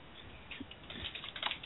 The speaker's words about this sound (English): I was typing to somebody in Steam.